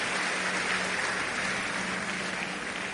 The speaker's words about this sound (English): You can give him a big, big hand clap. He's worthy of it.